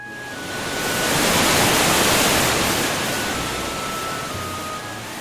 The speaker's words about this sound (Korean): 뜨거운 여름, 시원한 폭포와 함께하는 산책길은 생각만 해도 좋다. 등산 폭포는 좁은 협곡으로 돼 있어 빽빽한 나무들이 그늘을 만들어 뜨거운 햇살을 피해 걸을 수 있다.